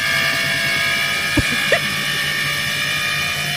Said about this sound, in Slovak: Napríklad, keď je niekto u nás a ide práčka a prejde do programu, že takéto že odstreďovanie sa to volá, tak to znie, ako keby, že sa rozbieha lietadlo. Ja som včera nahral našu práčku, počúvajte.